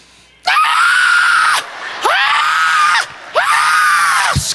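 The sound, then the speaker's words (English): A voice imitates a newborn baby's wailing scream in three long, loud, strained bursts with brief gasping pauses between them, piercing, with no other talk. “Every single baby around the world comes into the earth just like this.”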